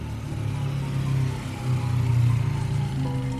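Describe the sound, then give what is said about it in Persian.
A patrol motorcycle's engine in a park hums steadily, its low drone swelling and easing slightly as it approaches and slows down, with no voices present. “از شانس خوب ما هنوز سیگارم تموم نشده بود که صدای موتورش اومد.”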